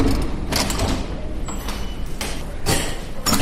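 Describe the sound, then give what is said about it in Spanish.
A key rattles and clicks in a lock, followed by the mechanical clunk of a door being opened, as a doctor takes a key from her pocket and opens the door of a hospital's corpse preparation room; a series of sharp bursts with no talking. “saca de su bolsillo una llave y abre una puerta sobre la que se puede leer un letrero: Sala de preparación de cadáveres.”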